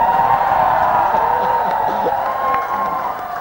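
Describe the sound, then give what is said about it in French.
A large audience shouts and cheers in a dense, continuous, loud roar of many voices, holding steady for the whole stretch with no single voice standing out. “Oh, mais vous pouvez hurler, je suis blindé.”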